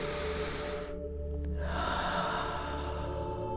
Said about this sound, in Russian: Первый подход. Вдох. Выдох. Вдох. Выдох. Держи темп вместе со мной. Слушай. Наблюдай за процессом дыхания, за его течением.